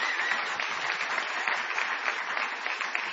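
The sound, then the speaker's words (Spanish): A live theater audience at the Multiteatro applauds Jorge Dorio steadily, a dense, even wash of many hands clapping at a constant moderate loudness with no voices breaking through. “No menos intensa ha de ser la ovación que depararemos a nuestro Jorge Dorio.”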